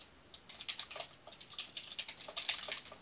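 Rapid, uneven keystrokes clatter on a computer keyboard, a steady stream of light clicks with no voices over them.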